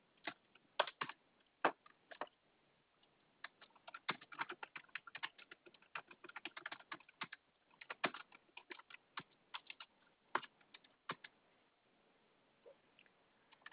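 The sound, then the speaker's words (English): Rapid, irregular clicking of keys on a computer keyboard as someone types an email, fairly crisp, with quick bursts and brief pauses between them, no voices present. “So you're typing an email to somebody who can make a decision, correct?”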